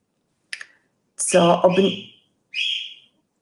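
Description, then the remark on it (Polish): A daughter's pet parrots calling in the background: a short sharp chirp, then a longer harmonic squawk, and a final high whistled call, with brief silences between, no talking. “To są papugi mojej córki, które się odzywają tu w tle.”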